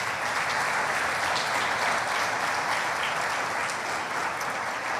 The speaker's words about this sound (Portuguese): Você pode aplaudir ao nosso Deus?